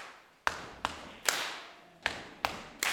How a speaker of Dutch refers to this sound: En stamp, stamp, klap. Stamp, stamp.